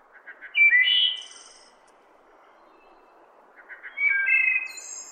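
A wood thrush sings two separate flute-like phrases, each opening with a few soft notes and ending in a high, shimmering trill, clear against a quiet background with no talking.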